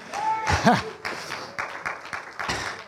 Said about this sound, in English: See, I don't know why the folks with gray hair ain't clapping harder.